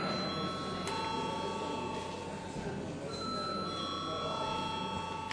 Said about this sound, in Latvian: Tādā gadījumā mums jāizņem šis jautājums balsojot. Lūdzu zvanu.